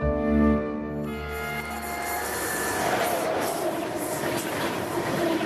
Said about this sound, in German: Mit dem Zug.